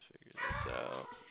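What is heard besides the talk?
dog barking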